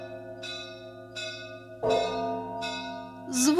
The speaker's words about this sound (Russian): Колокол звучит, звучит, звучит. Колокол какой?